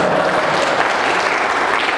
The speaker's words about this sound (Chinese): 给他鼓掌嘛！